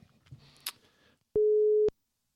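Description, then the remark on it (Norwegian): A telephone ringing tone on an outgoing call to a guest: one loud, steady mid-pitched beep lasting about half a second, preceded by faint shuffling noises and followed by silence. “Ja da, det ringer.”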